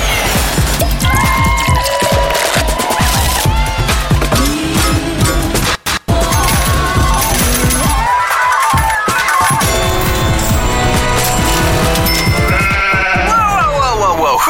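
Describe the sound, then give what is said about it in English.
Loud, repeated sheep bleating with wavering, quavering cries, layered over a dense, busy mix of other sounds, with a brief dropout midway. “Sheep.”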